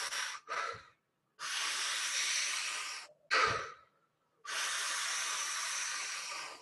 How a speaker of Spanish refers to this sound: Sigue respirando.